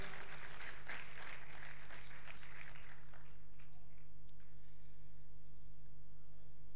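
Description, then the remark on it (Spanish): A church audience applauds Christ loudly with dense, sustained clapping for about three seconds, then it thins out and fades into a low hum over the remaining seconds. “Demos un fuerte aplauso a Cristo.”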